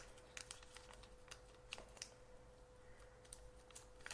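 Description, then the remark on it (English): A rotary encoder knob that looks like a potentiometer ticks through its detents in a quick, uneven run of small sharp clicks, fairly quiet, over a faint steady electrical hum. “It looks like a potentiometer, but I can tell by the way it's clicking, it's a rotary encoder.”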